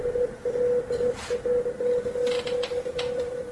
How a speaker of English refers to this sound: That's not Morse code. When the war in Iran started, these mysterious signals started around the world. Nope, not Morse code. Mysterious signals.